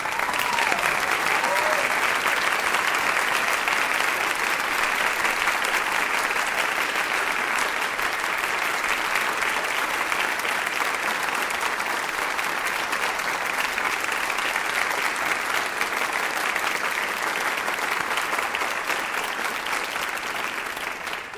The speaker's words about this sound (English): Let's all stand and give a big round of applause to all of these students.